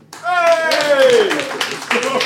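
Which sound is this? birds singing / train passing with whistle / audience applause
audience applause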